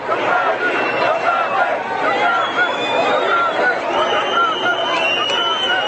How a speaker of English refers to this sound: Scenes like this, where riot police are protecting Romanis from an angry crowd, this one took place in Varnsdorf 2 weeks ago, were until now only seen in news from foreign countries.